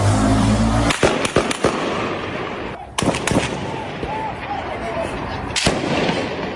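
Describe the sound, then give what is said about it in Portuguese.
Gunshots and explosions from a shootout between police and criminals: about six sharp, loud bangs at irregular intervals, some in quick succession, echoing over a constant rushing background noise. “Nas redes sociais, usuários publicaram vídeos em que se podem ouvir os sons de tiros e explosões.”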